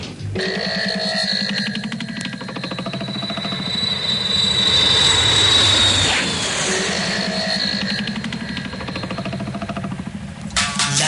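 A steady, loud airplane engine drones throughout in flight, a thick low rumble layered with a rising, thin whine that swells midway and then settles back.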